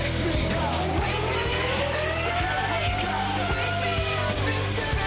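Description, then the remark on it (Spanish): Racing engineers and drivers yell and cheer excitedly over a loud, distorted team radio channel after a win, with a steady low engine drone running underneath throughout. “Madre mía, cómo gritan los ingenieros, los pilotos y todo el mundo, ¿eh?”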